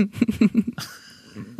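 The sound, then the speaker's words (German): A woman's small burp: a short run of low, croaky voiced pulses that stretches into a brief drawn-out tone, followed by one quick final burst. Fairly quiet, with no talking. “Hui, das war ein kleiner Rülps.”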